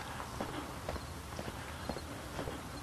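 Steady footsteps walking outdoors in the morning at an even pace, roughly two steps per second, over a constant hiss of open-air background noise.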